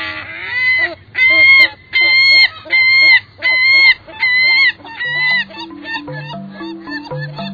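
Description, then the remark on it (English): A herring gull calls loudly, a run of about seven harsh, ringing cries in steady rhythm that quicken into shorter notes as soft music rises underneath. “So the next time you see a herring gull, take a careful look and listen to that unforgettable voice.”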